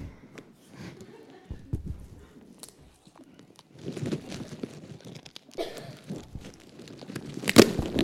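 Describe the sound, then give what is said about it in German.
Clear Tesa adhesive tape is pulled off a roll with scratchy, uneven rasps and crinkles, building to a sharp, loud tearing rip near the end. “Am offenen Herzen wird nur die klare Rolle verwendet.”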